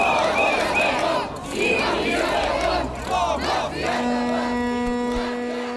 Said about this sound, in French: En fait, nous n'avons jamais eu une aussi grande vague de protestations, donc non, je n'ai pas peur. Such large protests as you can see right now.